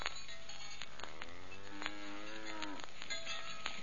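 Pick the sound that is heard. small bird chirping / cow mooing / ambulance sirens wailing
cow mooing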